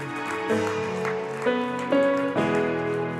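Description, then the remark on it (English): A crowd claps together in a dense, steady patter as a clap offering to celebrate Jesus, over sustained keyboard chords that change every half second or so, the music ringing loud beneath the clapping. “Come and celebrate Jesus with a clap offering.”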